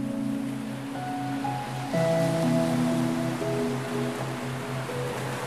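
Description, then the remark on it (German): A steady wash of ocean surf rolls on without a break, with soft, sustained musical tones layered on top and no voices. “Dann verschwindet der Delfin in den Wellen des Meeres und schwimmt davon.”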